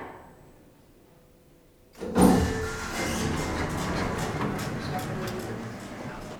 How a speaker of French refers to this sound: Deuxième étage. Ouverture des portes.